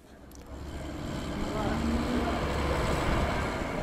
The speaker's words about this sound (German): Gleich nebenan dröhnt der Lkw-Verkehr über die Autobahn.